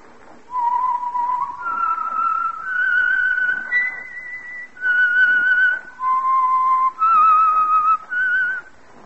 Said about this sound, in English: And for Sunday evening listening pleasure, the signal to listen for is this whistle that identifies the Signal Oil Program, The Whistler.